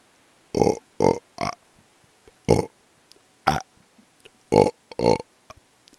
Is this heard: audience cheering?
no